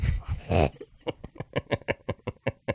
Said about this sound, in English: Is that a dog? Yeah.